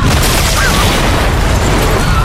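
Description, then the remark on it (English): A building explosion: a loud, deep roaring boom that holds as a steady, heavy rumble with rough crackling noise throughout, with no voices. “Get out! She's gonna blow!”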